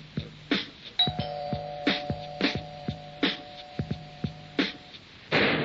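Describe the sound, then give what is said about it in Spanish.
A doorbell rings at a house door with a steady, buzzing electronic tone held for about four seconds, over a run of sharp, evenly spaced clicks, ending in a short burst of noise. “Llego a tu casa y llamo a la puerta.”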